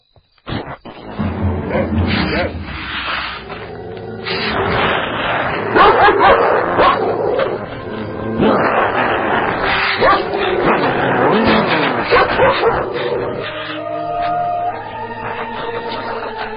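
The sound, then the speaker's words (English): A dog named Duster barks excitedly and loudly at a screen door, a steady run of yelps and bow-wows broken by whining whimpers, going on almost without pause for the whole stretch. “You're going to rip through the screen door. Ah, there you go, boy.”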